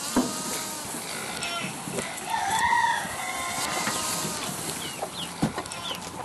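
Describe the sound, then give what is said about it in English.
A rooster crows once in the middle, a drawn-out rising and falling call, while chickens cluck sporadically against a busy outdoor farmyard background, in the morning at a home in Boulder, Colorado, that keeps chickens, goats and a pot-bellied pig. “writes that without kids to wake her up in the morning, she turns to her animals, chickens, goats, and a pot-bellied pig she named Doink.”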